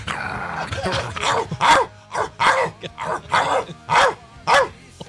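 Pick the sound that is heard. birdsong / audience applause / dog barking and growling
dog barking and growling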